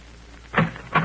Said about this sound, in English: On the afternoon of your arrival in New York, you walk down the corridor of an apartment building in the East 70s. Pause. Press a buzzer.